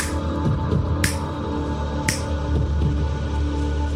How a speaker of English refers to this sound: Okay, I'm just gonna snap my fingers like that. Every time I snap, you count like 1, 2, 3, 4, 5 inside your mind, okay? Not out loud, okay?